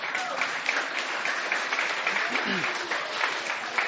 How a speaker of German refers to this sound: Wo ist der 14-Jährige? Super, auch für ihn einen Applaus.